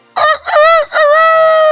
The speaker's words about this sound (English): Cock-a-doodle-doo, everybody.